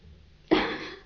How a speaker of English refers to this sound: Do you mind if I blow my nose?